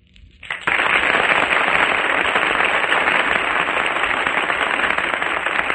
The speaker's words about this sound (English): Well, I think according to the applause here in the studio given to the competitors in this Echo contest, that the crown for the number one Echo Man of 1938 should belong to